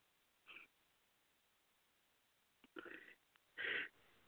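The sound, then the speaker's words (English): A few short burps into a phone microphone: a quick faint one, then two louder, throaty ones near the end, with quiet pauses between and no talking. “You have me, and I keep burping into like the phone.”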